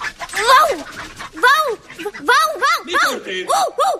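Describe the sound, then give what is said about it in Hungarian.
A human voice imitates a dog barking, letting out a quick, uneven series of loud yapping barks, about seven or eight in a row, with no other speech. “Akkor most megpróbálok ugatni.”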